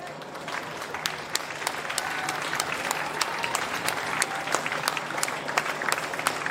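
An audience claps steadily throughout, a dense, even patter of many hands with sharp individual claps standing out, holding at a moderate level without building or fading.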